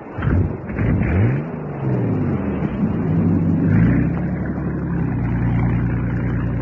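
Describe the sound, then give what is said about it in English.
A small boat motor sputters to life, its pitch climbing and swooping as it revs, then settles into a steady, loud droning run. “Start the motor.”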